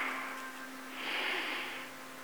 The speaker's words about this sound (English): Three deep breaths in pose.